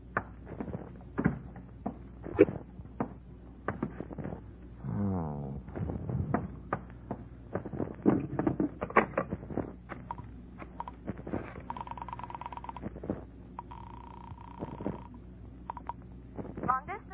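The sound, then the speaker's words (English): A penthouse apartment door on the Sunset Strip creaks open with a slow, wavering groan, surrounded by taps and thuds, followed later by steady telephone-like tones. “I found the apartment door open. First I looked in, then I went in.”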